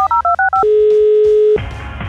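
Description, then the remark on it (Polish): Five quick two-tone DTMF beeps as a phone number is keyed in to call mom, followed by a steady low ringing tone for about a second, then a burst of rough noise. “a że mamy czasy dziwne, to zadzwoń do mamy”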